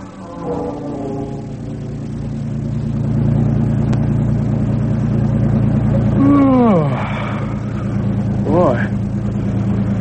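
A car engine hums steadily as the car drives along on a long trip in the early hours, a low continuous drone with a few brief rising whines partway through.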